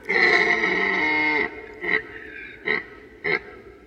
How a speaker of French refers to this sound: Voilà, donc c'était donc le cri, le fameux brame du cerf. On l'entend beaucoup la nuit, mais on peut l'entendre aussi dans la journée, quand c'est vraiment la période, le pic du brame pendant une ou deux semaines.